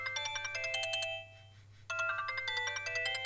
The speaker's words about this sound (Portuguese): Esqueci-me de desligar o telefone quando entrei na cabine. Bom, já agora atendo.